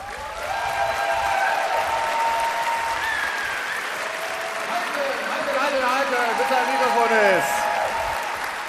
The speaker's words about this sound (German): Und deswegen will ich nicht viel sagen, außer jetzt bitte schön einen 10-Punkte-Applaus